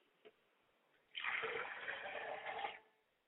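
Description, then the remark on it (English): Water is poured out of a glass as a libation in a ritual: a steady splashing stream for about a second and a half, fairly loud, then stops abruptly, preceded by a small tap. “I pour a glass of water to my Father Spirit, and I say, Ashe.”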